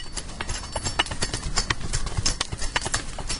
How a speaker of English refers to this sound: kind of like a rake in the yard or something.